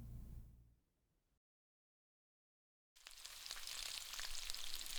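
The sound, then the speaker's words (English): Food sizzles and crackles in a hot pan, a steady bright hiss that fades out, drops to a brief silence, then returns louder and fuller with popping spatters, with no talking. “I'll just put all this away and get cooking.”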